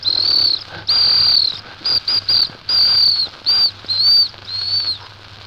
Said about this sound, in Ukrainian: А якщо порушує правила не громадянин, а громадяночка, я їй сюди не свистів. У мене для неї був спеціальний дамський свисточок.